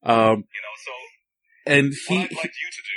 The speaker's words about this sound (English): No, I accidentally opened something on my phone and the video started playing right away.